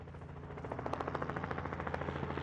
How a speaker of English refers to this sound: In a rugged canyon in southern Wyoming, a helicopter drops nets over a pair of coyotes.